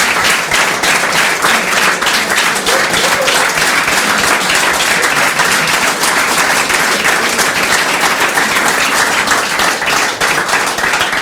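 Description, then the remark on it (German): An audience applauds steadily, a dense wash of many hands clapping at a constant loud level throughout, with no voices breaking through. The audience is welcoming a live football talk show, 1953, at the Schillergarten in Dresden. “Also vielen Dank für diesen warmen Applaus, für den warmen Empfang hier im Schillergarten.”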